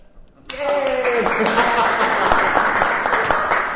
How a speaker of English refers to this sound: Well, my friends, you get to break the tie. Yes, we have Bob and we have Bob. And by your applause, you will break the tie. All those in favor of Bob, let's hear it.